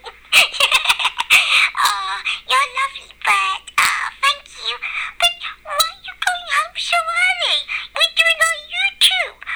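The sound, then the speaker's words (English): A pet bird, Lacey Lou, clucks in a busy, continuous stream of short chirpy calls and rapid clicking notes, with a few rising whistly tones near the end. “Oh, you silly bird. Of course you've got to be on the video.”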